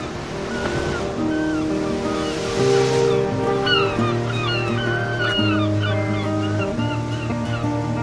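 Steady surf washing in close by, a continuous rushing wash with no clear breaks, layered with sustained tonal sounds and faint high chirps; nobody speaks.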